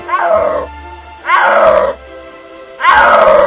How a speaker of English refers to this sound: The first time I heard a snow leopard roar, I still remember a long time ago. Suddenly I heard this roaring call.